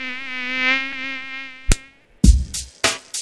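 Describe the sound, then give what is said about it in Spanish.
A steady high-pitched mosquito whine drones for about a second and a half, then stops abruptly as a handful of sharp, loud slaps or smacks follow in quick succession. “La transmisión es de una persona infectada al mosquito que la pica y del mosquito que pica a una persona sana.”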